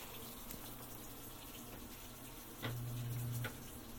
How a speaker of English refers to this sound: That's a spin motor. It's not as clear from up top. Snuck up on me.